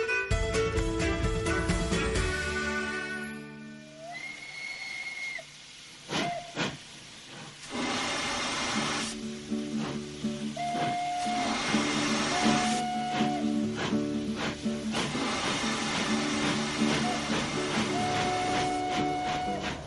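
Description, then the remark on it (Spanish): A steam locomotive of Madrid's Tren de la Fresa (Strawberry Train), heading to Aranjuez, hisses and puffs, with steady steam noise and several short whistle blasts sounding over it. No one speaks. “Nos vamos a montar en uno de los trenes más bonitos de Madrid, el tren de la Fresa, porque nos vamos a ir hasta Aranjuez para conocer mejor todos sus rincones”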